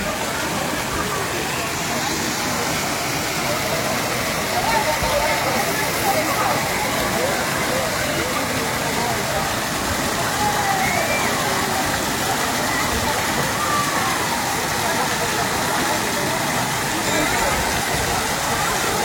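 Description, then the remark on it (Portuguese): A waterfall roars steadily and loudly, a dense, unbroken wash of rushing water that fills the whole scene, with faint voices occasionally surfacing beneath it. “gente, eu vou naquela cachoeira que tem ali, ó.”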